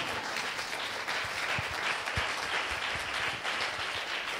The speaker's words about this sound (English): Oh, that's a good point to clap.